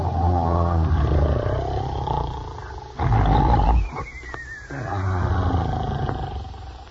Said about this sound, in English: After a while, the brave little tailor came upon the two giants who were lying asleep under a tree. They were snoring so loudly that the branches trembled. Listen to them.